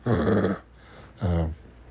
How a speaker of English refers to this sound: He spoke to me nice and politely. Did he not speak to you like that? No, he kind of growled. Well, it wasn't quite a growl. It was a very low